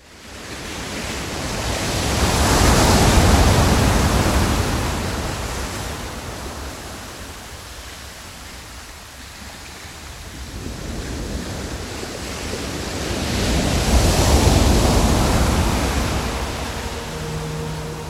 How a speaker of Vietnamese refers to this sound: Biển động, những đợt sóng dâng lên đen ngòm, cao như những ngọn núi khổng lồ, đánh sập tất cả các cột buồm. Từng miếng dán dày hai bên mạn thuyền lần lượt vỡ tung ra sau những cơn sóng hung hãn.